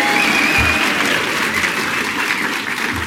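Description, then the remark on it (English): An audience applauds as a simple public vote, a dense, steady clatter of many hands clapping at an even loudness throughout, with a thin high whistle rising briefly near the start. “Simple public vote by applause.”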